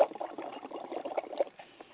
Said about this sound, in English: Wow. Blowing bubbles in my drink. Mm-mm-mm.